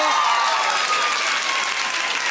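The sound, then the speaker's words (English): A crowd claps steadily throughout, a dense, even wash of applause with a few faint cheers mixed in, sustained at a consistent loudness from start to finish. “How many of you ladies would love to get paid to shop? Clap your hand.”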